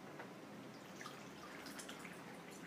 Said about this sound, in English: let me get a glass of water here.